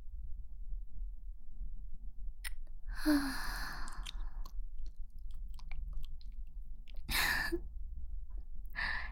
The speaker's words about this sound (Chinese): 果然，不戴口球是正确的。如果听不到这样的喘息，就太浪费了。